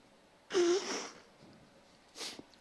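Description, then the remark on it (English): A nose is blown in one long, breathy, honking burst lasting about half a second, then a second shorter blow follows a moment later. Both are fairly loud, with no talking. “I got to blow my nose, excuse me.”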